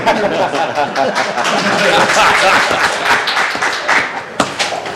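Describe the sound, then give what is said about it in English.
An audience applauds steadily for several seconds, a dense wash of overlapping claps at an even loudness, with a few sharper individual claps standing out near the end and murmuring voices underneath. “Now, I noticed he didn't get an applause, though, he won't.”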